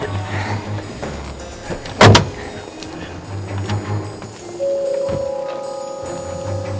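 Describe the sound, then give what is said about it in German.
Three people climb out of a car: a low idling hum, a sharp door clunk, shuffling movement, then a steady warning chime and another thud as a door shuts. “Die drei Detektive kletterten aus dem Wagen, nickten einander kurz zu, dann trennten sich ihre Wege.”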